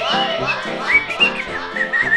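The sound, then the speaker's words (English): Someone in a studio whistles a string of short, high chirps imitating a bird call, with quick rising and falling notes repeated over a couple of seconds while voice-like murmuring runs underneath. “There's a bird loose in the studio while we're camping. I hear a bird.”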